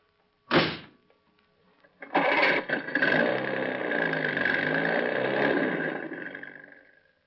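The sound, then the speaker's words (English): A car door thuds shut, then after a short pause an engine cranks and roars to life, revving steadily and loudly for several seconds before easing off as the car pulls away. “Now just keep quiet for a few minutes and get in the car.”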